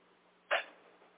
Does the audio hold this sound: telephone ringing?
no